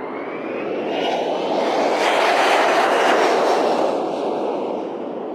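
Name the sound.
jet airliner taking off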